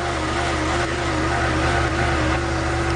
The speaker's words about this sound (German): Ja, so klingt es gerade, nicht beim Zahnarzt, sondern in Schwelm. Da bohrt der geologische Dienst nämlich die Erde auf und sucht nach Möglichkeiten, Erdwärme zu nutzen. Geothermie nennt man das.